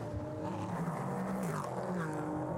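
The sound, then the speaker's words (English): A large gaggle of race cars in traffic, including cars of Archangel Motorsports, BWB and Rebel Rock Racing, roars past on a track, a dense, steady drone of overlapping engine notes with pitches rising and falling as the cars sweep by. “That was a huge gaggle of traffic there for the leader.”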